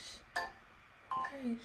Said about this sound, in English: Okay, alarm.